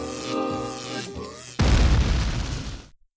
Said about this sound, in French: Erreur, détection d'un virus sur le terminal central. Identification. Trouvé. Windows Bisba 2.2.77. Explosion imminente.